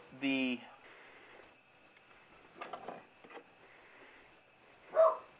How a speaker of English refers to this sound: They're probably barking at the deer. We have deer walking through the yards around 10:30 at night the last couple of nights.